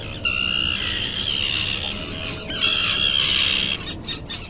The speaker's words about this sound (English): But for the conservationists I'm tagging along with, this is bird habitat. We sit in silence and listen to the call of the common tern.